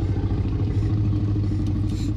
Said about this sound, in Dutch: En het grommende geluid van de Rex is niet afkomstig van een poedel, maar het is het vertraagde geluid van Buster, de Jack Russell Terrier van Gary.